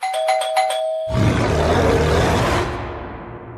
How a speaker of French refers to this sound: Quel bruit fait la sonnette quand c'est un gorille qui sonne à la porte ? King Kong.